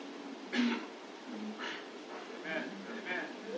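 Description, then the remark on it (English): A single sharp, breathy sneeze bursts out near the start, followed by stretches of muffled talking that continue to the end. “Oh, bless you.”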